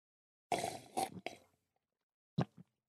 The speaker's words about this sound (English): Just give it a slurp. So tell me what you can taste. You want slurping sound effects? Yeah, okay. Absolutely.